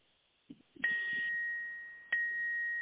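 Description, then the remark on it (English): A doorbell rings out a two-note ding-dong chime, each tone striking clearly and ringing on with a long sustained decay. A few soft thumps come just before the first note. “Girl, that's a bell.”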